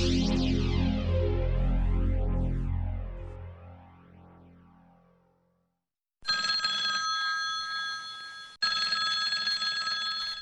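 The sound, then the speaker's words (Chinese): A deep resonant tone swells and slowly fades, then after a brief pause a loud telephone rings in two bursts for a late-night call on 15 December 1978, its bright, steady bell tone repeating with no voices. “1978年12月15号深夜的一通电话，改变了台湾的命运。”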